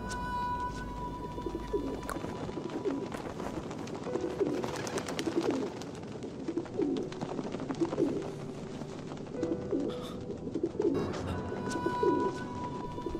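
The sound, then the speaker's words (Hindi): Pigeons coo repeatedly in soft, throaty phrases that recur every second or two, over a steady background of ambient noise and a faint tonal hum. “कबूतर”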